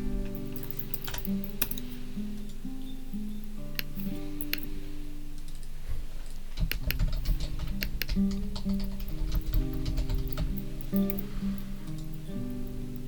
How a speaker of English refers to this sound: He's still typing.